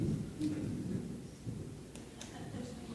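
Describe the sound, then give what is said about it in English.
Low, rolling thunder rumbles steadily for a few seconds under a faint hiss of rain, with a few brief crackling bursts; the storm sounds muted, and no one speaks. “And we don't mind the thunder, the lightning, or the rain.”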